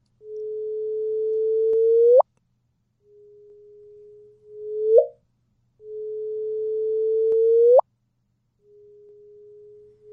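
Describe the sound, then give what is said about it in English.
A sonified gravitational-wave signal, recorded for the second time by scientists including a group at Northwestern University: steady low tones that swell in loudness and sweep sharply upward into a brief chirp, repeating four times in a regular pattern with short gaps, no voices. “And that's not a bird outside of your window. Those are gravitational waves.”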